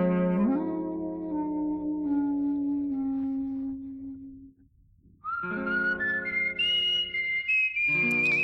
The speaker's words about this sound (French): Et elle a fait, elle a fait un album qu'en sifflant. Voilà. Oui. Elle était très connue pour parlant de siffleuse. Oui, siffleuse, mais... oui, siffleuse.